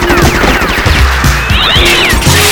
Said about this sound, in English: My kitten is stuck in that tree! Stand back!